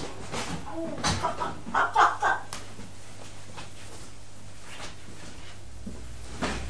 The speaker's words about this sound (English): What does a hen say?